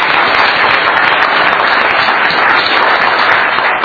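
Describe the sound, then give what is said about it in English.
Sustained applause from a sizable audience at a District 12A education meeting, a dense, steady wash of many hands clapping at once, fairly loud and even throughout with no voices standing out. “Give yourselves a round of applause as well.”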